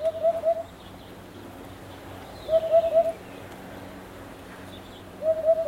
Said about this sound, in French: Et là, on entend un chant d'oiseau. C'est la huppe. Donc c'est la huppe faciée. Donc effectivement, il y a un mâle qui est dans un des arbres fruitiers du voisin, donc à quelques mètres. Donc c'est pour ça qu'on l'entend assez bien.